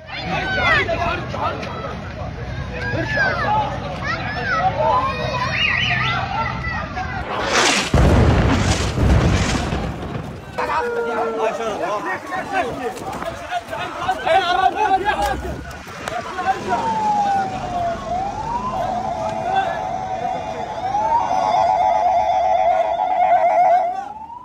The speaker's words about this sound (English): filmed himself near the scenes of some of the Israeli airstrikes on Tuesday and recorded civil defense crews trying to put fires out inside buildings that were targeted.